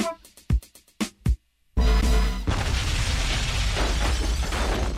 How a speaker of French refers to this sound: Des chansons qui se terminent par une explosion. Ça me rend heureux. Toutes les chansons devraient se terminer par une explosion.